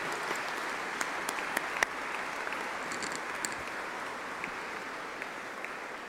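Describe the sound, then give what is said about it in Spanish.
An audience applauds the Lord and the Virgin Mary at a gathering with bishops, before an image of the Virgin set in slate stone. A dense wash of many hands claps at an even level for several seconds, with a few sharper individual claps popping out of the crowd. “Démosle un fuerte aplauso al Señor y a la Virgen María en este día.”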